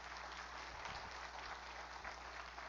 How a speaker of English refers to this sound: Come on, give him a good clap offer, would you? Come on.